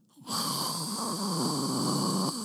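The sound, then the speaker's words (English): A voice imitates the steady hum of an airplane engine, the constant roar of the plane heard from a seat in flight, holding one continuous, buzzing drone with a high whining edge for about two seconds, loud and unbroken, with no talking over it. “That hum that's really this constant roar of the plane.”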